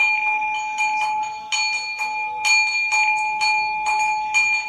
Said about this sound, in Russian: Такая мини-колокольня здесь у меня, да?